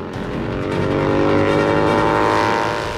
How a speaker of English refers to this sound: peering through the transparent visor in the streamliner, intent on the surface of the lake bed ahead as he speeds along.